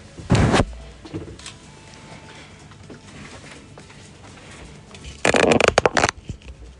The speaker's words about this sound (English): Just like yesterday, we have folded some pieces of paper in a ballot. You pick one,